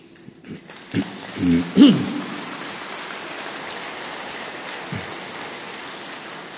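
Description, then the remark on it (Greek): Steady applause from a crowd, a dense, even patter of many hands clapping that holds for several seconds, with a few brief murmurs of voices near the start. “Μόνο θα ήθελα να παρακαλέσω, τώρα χρειαζόταν το χειροκρότημα, αλλά αν χειροκροτά τη συνέχεια θα παραταθεί ο λόγος.”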